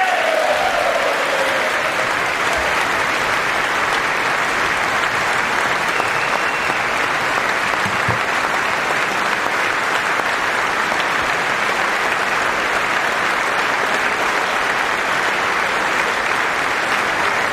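Sustained applause from a large crowd following a speech fills the whole stretch, a dense, steady wash of clapping at constant loudness with no voices rising above it.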